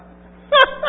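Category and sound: human body sound, sneeze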